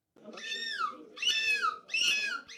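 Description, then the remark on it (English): A person imitates a seagull's screech at the fifth annual European Gull Screeching Championship, which drew 60 contestants from 14 countries: three loud, drawn-out, harmonic cries that slide downward in pitch, each followed by a shorter fourth call, with no talking. “This was the fifth annual European Gull Screeching Championship, attracting 60 seagull sound-alikes from 14 countries.”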